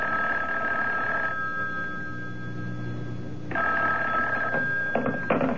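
A telephone rings twice, each ring a long, steady, high electric trill separated by a pause of quiet. No one speaks.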